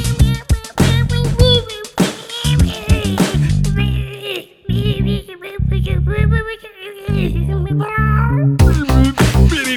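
A cat named Dog meows repeatedly, with drawn-out rising and falling cries over a loud, thumping musical backing that runs throughout.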